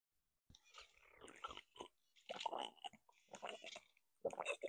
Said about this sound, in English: sip for you, my dear. Drink up, because I know you haven't.